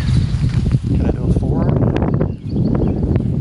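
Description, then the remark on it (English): Strong wind blowing outdoors during a disc throw toward a basket, a steady low rumbling roar that buffets throughout, with a voice briefly audible through the gusts. “There's too much wind.”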